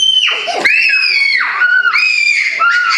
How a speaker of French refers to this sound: Nous sommes dans l'un des quartiers populaires de la ville de Goma, les quartiers Majengo, où les cris d'enfants résonnent dès les premières heures du jour.